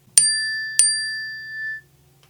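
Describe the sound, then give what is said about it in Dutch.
A glassy electronic notification tone named 'Glas' from a device's list of alert sounds: two quick bright strikes about half a second apart, the second ringing out clearly for about a second before stopping, heard alone with no talking. “Glas.”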